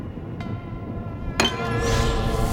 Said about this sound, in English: The lamp nudges a bottle, but she catches it before it hits the floor.